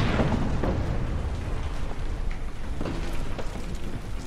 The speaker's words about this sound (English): And then it just passes between 2 ribs, travels another 10 feet, and the Minotaur glances back. And then there's the explosion.